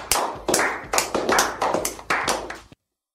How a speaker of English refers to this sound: Your applause gives me life. Thank you.